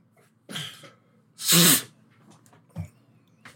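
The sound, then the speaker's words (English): A run of wet nasal sniffles from someone with allergies: a first sharp snuffle, then a loud forceful one, followed by two quicker, fainter sniffs, with no talking. “Let me get all sniffled out.”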